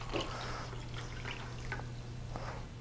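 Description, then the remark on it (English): Water pours into six glasses in short, soft splashing bursts over a steady low hum, fairly quiet, with no one speaking; the water is for mixing yeast. “To mix our yeast, we're gonna pour 6 glasses of water.”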